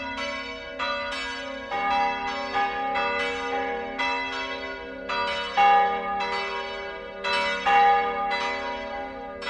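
Several church bells peal together on a Sunday morning in overlapping, rhythmic strokes, their rich metallic tones ringing out steadily and fairly loud with a long shimmering resonance, and no voices present.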